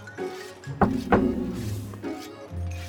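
A patterned secret knock on a door: two loud, sharp raps in quick succession, followed by a few softer, duller thuds at an uneven rhythm, with no voices.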